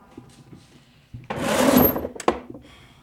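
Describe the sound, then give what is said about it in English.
A wooden drawer with a false bottom slides open with a rough, grinding scrape lasting about a second, followed by a sharp knock as it stops. Quiet room tone before and after. “Here, the diary's in that drawer over there. It has a false bottom.”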